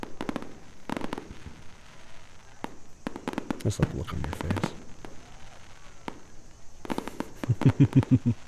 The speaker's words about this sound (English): Fireworks are way more fun with someone else.